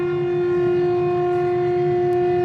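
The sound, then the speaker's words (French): A town siren that once marked the working hours of the city's workers sounds loud, holding one steady, unbroken pitch for the whole stretch with a rich, buzzing tone and a low rumble beneath, with no one speaking. “Ah, voilà ce qu'on pourrait faire écouter. La sirène de Bobos du Lasso.”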